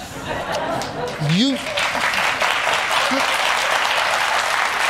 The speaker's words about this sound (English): What's wrong with them people in the studio? Why are they clapping all the time for you